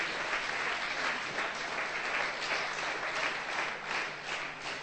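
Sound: audience clapping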